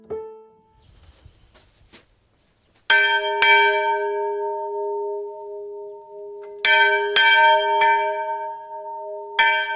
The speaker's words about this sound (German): So klingt die Glocke, die außen an der kleinen Kirche im Freilandmuseum Diesdorf hängt. Dafür zieht Jochen Hofmann an einem langen Seil.